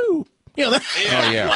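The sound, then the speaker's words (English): A person makes a quick vocal imitation of a police car's siren chirp when pulling someone over, one short falling 'bwoop' tone, then immediately continues talking in a clear voice. “He looks in the rearview mirror and they, it's like they have to use the siren, but they don't need it.”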